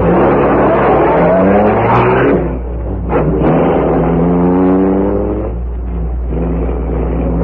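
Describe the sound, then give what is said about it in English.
A car engine revs and accelerates as it pulls away, its tone climbing through several gear-like rises, loud throughout with no voices. “Take the car around to the rear.”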